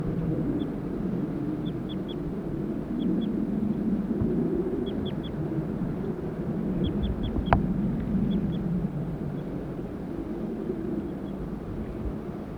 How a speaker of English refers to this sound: The birds are calling more loudly now. Male, female. Male. Male. Male.